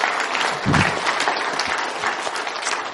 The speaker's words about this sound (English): Anyway, no, I think the VBS has done a pretty amazing job of decorating. Let's give them a hand of applause there.